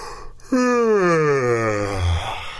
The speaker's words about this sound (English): Yawning. Yes, yawning. Y-A-W-N,、就是打哈欠。而且打哈欠其实是蛮有传染性的嘛 It's right, infectious.